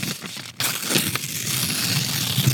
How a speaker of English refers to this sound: I'm tearing up paper. I'm the speaker.